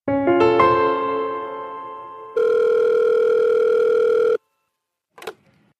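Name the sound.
telephone ringing tone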